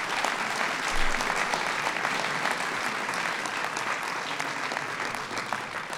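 Steady applause from an audience for a Naval Academy football linebacker, dense rapid clapping that holds at an even, fairly loud level for the full six seconds, with no voices on top.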